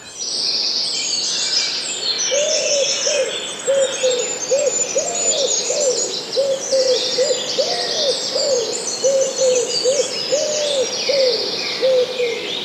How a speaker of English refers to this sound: Now the wood is dominated by blackcap singing away and wood pigeon. So the wood pigeon is going doo doo doo doo doo doo doo.